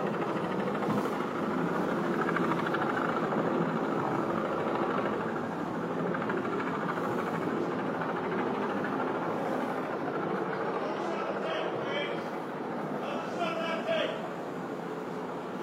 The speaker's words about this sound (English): Oh, helicopters.